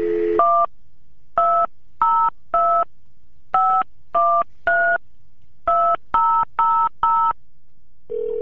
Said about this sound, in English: The musical notes in those pairs correspond to the two tones that are generated when you push a button to dial your phone.